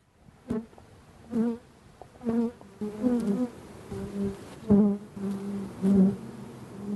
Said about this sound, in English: And they also got to know some new neighbors along the way, like when their bees decided to swarm and take up residence in a surprised neighbor's tree. Here's a little sound from that incident.